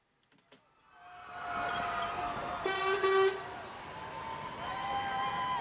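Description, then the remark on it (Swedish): Trucks carrying 2017 upper-secondary school graduates rumble past along Esplanadgatan, a busy street in central Helsinki, Finland, as the graduates wave and throw candy, with a steady engine drone and a loud, sustained horn toot near the middle amid a bustling outdoor crowd. “Här kör alla abiturienter 2017 omkring på lastbilar och vinkar och kastar karki.”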